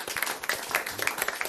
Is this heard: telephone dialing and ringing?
no